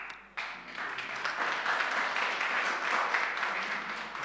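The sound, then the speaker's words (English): A church audience breaks into steady applause, a dense crackle of many hands clapping at once that swells quickly and holds at a fairly even loudness for several seconds. “Don't clap too much.”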